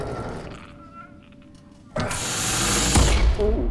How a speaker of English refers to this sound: prizes open huge sliding doors.